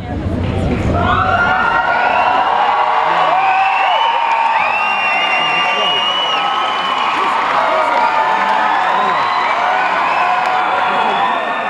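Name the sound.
concert crowd cheering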